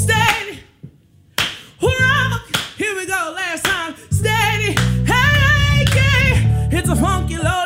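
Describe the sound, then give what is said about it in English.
Steady, rhythmic hand claps by boys keep the beat alongside a singing voice and a deep, bass-heavy groove, the sharp slaps landing loud every half second or so. “Thank you, boys, for clapping.”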